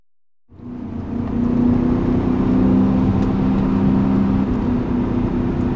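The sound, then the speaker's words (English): A car engine hums steadily after a brief silence while driving mountain roads in the Hudson Valley, its low droning note rising slightly as it settles into a smooth, continuous drive with road noise underneath. No one speaks. “That engine, the engine note alone, I could fall asleep to this engine note.”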